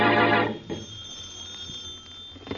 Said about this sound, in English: the phone rings.